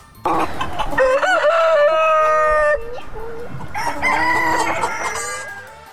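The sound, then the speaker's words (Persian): A rooster crows loudly with long, stretched calls while hens cluck in the background, the crowing returning after a short pause; chickens in Estonia. “همچنان گزارش میشنوید در این مورد که شیوع ویروس کرونا در استونیا بازار فروش مرغ و کرایه مرغ را پر رونق کرده.”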